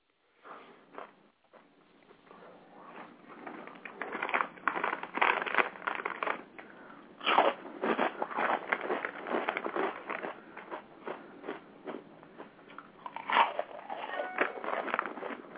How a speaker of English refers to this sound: Man, quit taking tips off of Destiny, man, crunching on the phone. We already had that conversation. Were you on the phone crunching earlier?